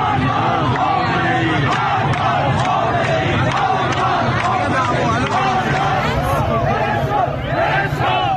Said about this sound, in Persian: این تصاویر هم گفته می شود درگیری با ماموران انتظامی در نازی‌آباد تهران است.